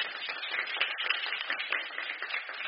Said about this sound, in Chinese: 我们给牧师师母还有这么可爱的牧长同工们我们给他们一个掌声好吗？